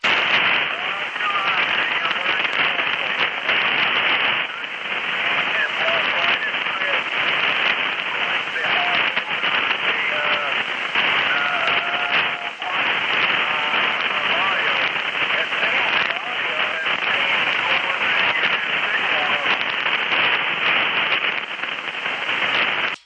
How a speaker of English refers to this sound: I'm only able to hear little snippets because of the bad static. Over.